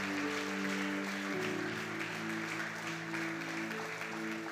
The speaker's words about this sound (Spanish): Vamos, vamos, siga aplaudiendo a Dios por estos corazones.